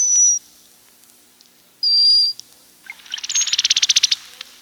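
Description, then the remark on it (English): A cowbird's mating call: two thin, high whistles with a pause between, then a quick burst of dry, rapid chirping notes that grows louder, with no talking. “Somebody thought the cowbird's mating call was surely the ugliest bird song.”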